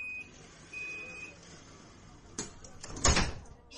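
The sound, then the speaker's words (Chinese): A tram's sliding doors close after two steady warning beeps, sliding shut with a rumbling whoosh and a solid thud, over a low background hum. “尊敬的旅客，电车即将关门，请坐稳扶好。”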